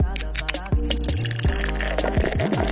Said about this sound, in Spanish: destapar una cervecita Escudo, porque junto a Escudo queremos hacer un salud por esta generación que cuando le mandan un audio de 3 minutos o lo dejan con un terrible de visto, la hacen corta y se destapan una cerveza de Escudo bien helada.